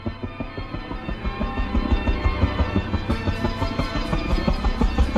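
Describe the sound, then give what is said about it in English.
A military green helicopter's rotor beats in a fast, steady rhythm over a deep engine roar, loud, swooping low over a highway and swelling slightly as it nears and sets down on the road, kicking up dusty wind. No voices. “The military green chopper sets down on the road, sending a dusty wind flying at Wolf's face.”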